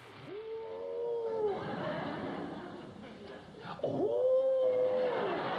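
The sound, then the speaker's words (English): Two crooning, moaning common eider duck calls, each a rising 'ah-ooo' that swells and then holds steady, separated by a few seconds of soft, steady background noise. “And this one is about the common eider. In it, we explore the world of these colourful and charismatic ducks.”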